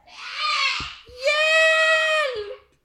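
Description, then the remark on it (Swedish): A monster's scream in two loud, harsh bursts: a shorter wail, a brief pause, then a longer sustained shriek that cuts off abruptly. Alone, with no talking. “Blodet droppar, vampyren biter, monstret skriker.”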